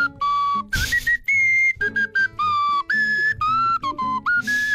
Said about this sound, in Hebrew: מכירה את המשרוקית המזייפת שלי? תשמעי איזה יופי מזייפת.